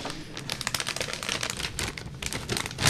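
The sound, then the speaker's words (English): Chocolate packaging is unwrapped with a steady run of sharp, rapid crinkles and crackles lasting the whole few seconds, fairly loud and with no one talking over it. “There's so much, there's more wrapping in here than there is chocolate.”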